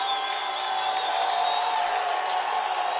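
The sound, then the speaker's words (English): A large stadium crowd of Vikings fans rises to its feet during an American football game, roaring and cheering in a dense, steady wash of noise that holds at the same loudness for the full three seconds, with no single voice standing out. “You hear the Viking crowd to their feet.”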